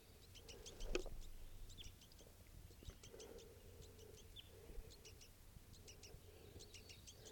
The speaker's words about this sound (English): And there's a lone male here with two begging baby juveniles with him. This is the family now.